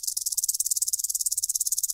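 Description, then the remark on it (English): A detached rattlesnake rattle shaken steadily for two seconds, giving a dry, high, buzzy hiss pulsing rapidly and evenly, with no voices. “But these are harder to rattle because they're just actually the rattlers.”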